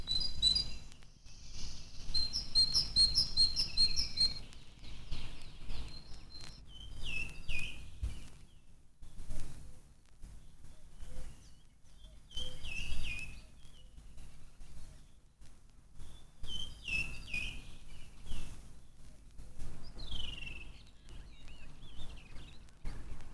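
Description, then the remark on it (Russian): A great tit sings outdoors, repeating short, bright, high-pitched two-note phrases in bursts with pauses between. Faint rustling and low background noise run underneath, and no one speaks. “Это песня большой синицы.”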